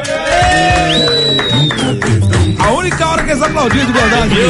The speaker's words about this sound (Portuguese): Única hora que eles aplaudiram de verdade, bicho.